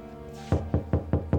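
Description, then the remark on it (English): Five loud, evenly spaced knocks pound on a locked door in quick succession, each a sharp thud over a low steady hum, with no one speaking. “Open this door now! Miss Durham, open the door!”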